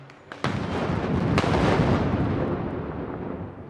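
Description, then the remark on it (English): Celebratory gunfire and fireworks from pro-Gaddafi loyalists demonstrating in the streets of Tripoli, Libya, with a sharp loud crack and another burst, then a dense roar of pops and rumbling booms echoing through a street. “Pro-Gaddafi loyalists demonstrated in the streets after the statement, firing guns and fireworks in celebration.”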